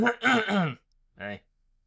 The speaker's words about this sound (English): I was clearing my throat to say the word hey. You could just do that.